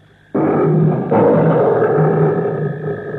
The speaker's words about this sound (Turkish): Paşam, bu hayvancık sizi pek sevdi. Görmez misiniz, ayaklarınıza sürtünür durur. Sever tabii. Biz bu aslanla eskiden tanışırız. Tanışır mısınız? He ya. Bunun adı Kızıl Ejder'dir. Tunus Bey'in aslanıdır.